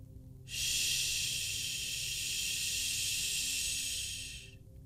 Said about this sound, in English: Static flared louder from down below, and a silhouette rose in the sickly yellow light reflecting on the stairwell wall.